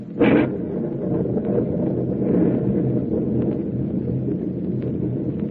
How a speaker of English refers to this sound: This storm is rising in intensity every minute.